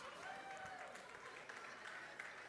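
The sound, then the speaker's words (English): Scattered, hesitant clapping from a small group: a thin patter of uneven claps that never builds into full applause, with faint crowd murmur underneath. “It's like an awkward clap.”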